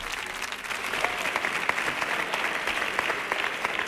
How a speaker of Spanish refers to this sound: Fuerte el aplauso